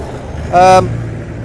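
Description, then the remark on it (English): A Subaru car passes by outside, its engine rumbling steadily, a low hum throughout, with a brief, louder higher-pitched tonal burst partway through. “Sorry about the motorbike. Actually, it was a car.”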